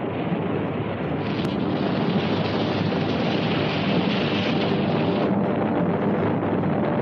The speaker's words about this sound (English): And a space base had sprung up in the Cumbrian bogs to harness the power of the Blue Streak missile. Pinned to its concrete stands and caged in its metal towers, the rocket's mighty Rolls-Royce engines thundered.